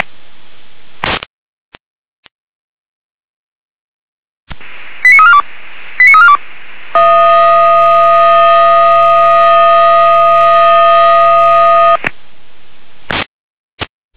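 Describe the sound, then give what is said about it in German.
Volunteer fire brigade alerting siren tones over a radio channel in Weimarer Land, Germany, for a fallen tree between Isserstedt and Kotzwitter: two short bursts of pitched tones, then a loud, steady buzzing tone held for about five seconds, framed by faint static clicks. “Weimarerland, mit der Alarmierung.”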